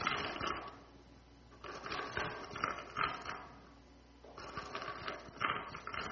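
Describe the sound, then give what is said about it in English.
Metal chains clank and rattle in repeated bursts of jangling clicks, swelling louder and fading in waves, with no voices. “I started to hear the chains of the people who were enslaved by sin.”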